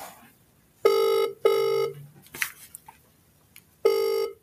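An outgoing call's ringback tone, calling a builder: two steady electronic purrs in quick succession, a pause with faint rustling, then the ring starts again. Clear, with nobody speaking.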